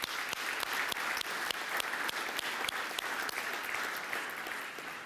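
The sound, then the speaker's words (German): An audience claps steadily for several seconds for six young people who have just been introduced, a dense patter of many hands with a few sharper individual claps standing out, sustained at an even level throughout. “Ja, euch einen Applaus erstmal.”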